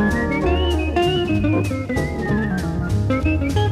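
A bright whistled melody glides along in unison with a jazz guitar line played by the same musician, who seems to improvise, backed by bass and rhythm accompaniment, playing continuously and fairly loud with no voices.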